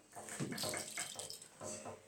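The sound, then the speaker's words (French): Rainwater trickles and runs steadily down fogged-up window panes, a continuous hissing, splashy wash with uneven little surges and drips, moderately loud, with no voices. “Écoutons le chant de la pluie. Gouttelette qui s'écoule et qui ruisselle sur nos vitres embuées.”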